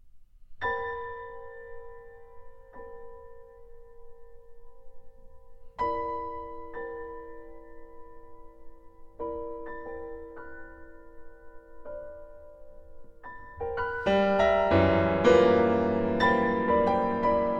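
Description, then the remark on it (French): Contemporary classical music with bell-like chords struck every few seconds, each ringing out and slowly fading, before a denser, louder cluster of clanging tones builds near the end. No talking. “mais aussi Tristan Murail dans Cloche d'adieu et un sourire, hommage à Olivier Messiaen, dans lequel il lui emprunte des couleurs issues du prélude Cloche d'angoisse et Larmes d'adieu. Un extrait tout de suite.”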